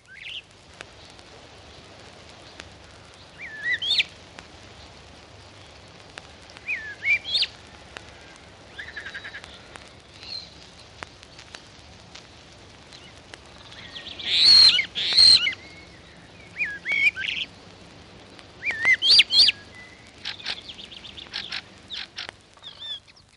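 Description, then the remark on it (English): A starling mimics blackbird calls: scattered high chirps and clucking notes, with louder, harsher bursts about two-thirds of the way through. It is clear over a quiet outdoor background. “Starling mimicking blackbird.”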